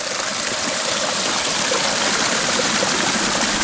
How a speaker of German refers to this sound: Einer von unzähligen Wasserfällen.